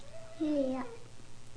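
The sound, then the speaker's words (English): A single short cat meow, a clear tonal cry that rises and then falls, over a quiet background. “Good kitty.”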